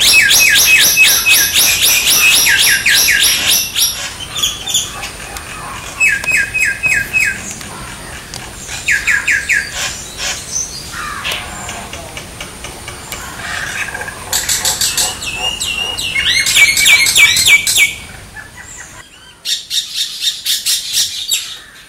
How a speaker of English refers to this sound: That's the noise of the Indian minor bird, also known as the common minor. Introduced in Melbourne in the 1860s and described as the cane toad of the sky, these Indian minors are hunting out our native birds and making the peninsula their home.